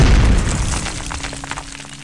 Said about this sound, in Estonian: Pommiplahvatuse käigus hukkus ka terrorist ise.